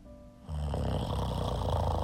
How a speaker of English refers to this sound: Like, if you were to say, okay, somebody pipe in some snoring. Right, music, I could use that as a sound. I could use that as my snoring sound effect.